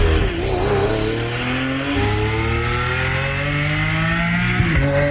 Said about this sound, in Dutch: Dat denken heel veel mensen. Nee, joh, dat ik ben geen autokenner, maar ik hoor wel wanneer iets van de Formule 1 is. Maar dit is het ingetogen woede eigenlijk van een Italiaanse Lamborghini.